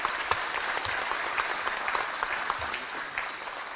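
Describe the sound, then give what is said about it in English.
An audience at a community forum in the city of Buffalo claps steadily for the Concerned Clergy Coalition, a dense patter of many hands at moderate volume with no voices standing out, continuing evenly for several seconds. “Let's give the Concerned Clergy Coalition a round of applause.”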